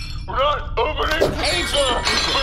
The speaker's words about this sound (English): Stop smashing the plates.